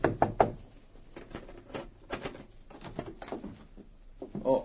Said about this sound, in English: Then he went to the Yukon Hotel, where Guthrie and Metz were registered. He knocked on the door of their room.